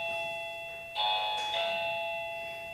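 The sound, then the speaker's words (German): An electronic doorbell rings again, chiming twice in quick succession, a bright two-tone ding-dong with sustained ringing tones, clear, with no voices over it. “Warum klingelt das denn jetzt nochmal? Ja, ich habe keinen bestellt.”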